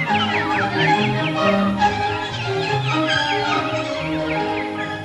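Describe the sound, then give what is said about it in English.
Many birds chirp in quick, overlapping bursts throughout, a busy high twittering over a steady lower hum of sustained tones. “Those are birds.”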